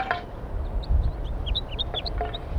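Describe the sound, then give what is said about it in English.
A flock of about six wild birds calling from the top of a pine tree, a steady scatter of short, high chirps and peeps overlapping one another above a low, rumbling background. “Recording the wild birds. Some more have joined the flock up in the pine tree.”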